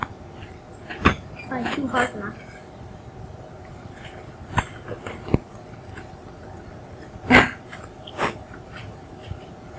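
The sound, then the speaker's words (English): Crunchy chewing and biting sounds arrive in irregular bursts, with a few sharp clicks standing out over a steady low background hum and faint murmuring. “Yep, I'm picking up my chewing.”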